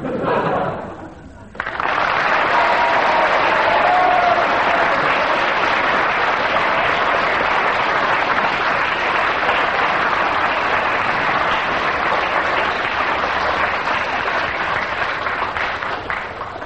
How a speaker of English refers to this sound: Ten seconds of rather half-hearted applause there.